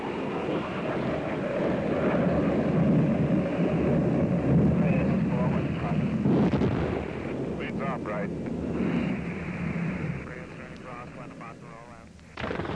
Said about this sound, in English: Another strike by Marine Dewey helicopter coming in. Right side, blasting away at the enemy. And the war in Vietnam is the war of the helicopter.